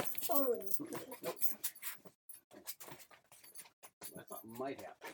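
A dog whimpers in short, high-pitched whining bursts as it sees another person outside, one near the start and another near the end, with soft shuffling and clicking noises in between.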